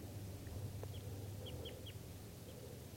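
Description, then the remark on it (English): A wild bird, the third bird and the one not yet captured in the net, calls from up in the trees with a few short, high, downward-sliding chirps, three in quick succession, over a steady low rumble. No one speaks. “And we'll call this guy that's still calling in the trees here bird number three.”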